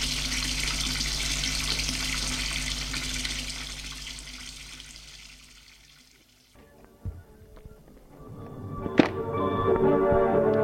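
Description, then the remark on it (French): Water runs steadily from a tap in a broad hiss as a man cleans the kitchen, stops after about six seconds, then gives way to clinks and thunks of dishes before a gush of water starts again. “Lave la cuisine, prend une douche et se couche.”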